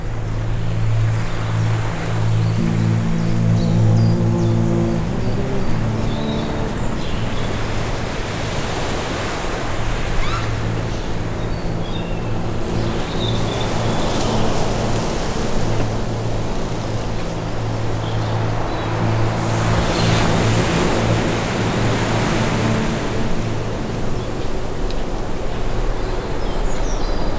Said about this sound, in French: Vent marin s'engouffre à travers les bosquets. Il nous donne l'élan du voyage.